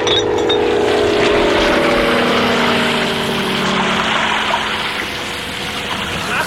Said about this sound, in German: Ich finde, hier gibt's eine interessante Stelle, wo das Löschflugzeug Wasserbomben wirft. Und da würde ich ganz gerne mal reinhören. Passt auf, das Löschflugzeug wirft Wasserbomben.